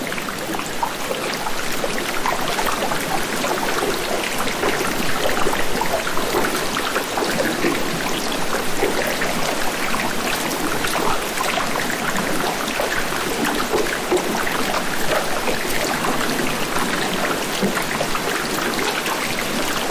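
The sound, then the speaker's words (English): Dense, steady patter of meltwater dripping and trickling inside an ice cave at Old Palmer Station on the Antarctic Peninsula, recorded 20 years ago, continuous and fairly loud with countless tiny drops, the reverberation of the ice, and no voices. “Also, this is a recording from an ice cave at Old Palmer Station on the Antarctic Peninsula, which is long since gone when I recorded it 20 years ago.”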